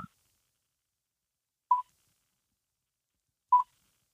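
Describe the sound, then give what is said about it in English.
Two short electronic beeps from a phone keypad as someone tries to silence the phone, spaced roughly two seconds apart, each a brief mid-pitched tone against otherwise near silence, with no talking. “This is not a phone that I have to mess with too much usually.”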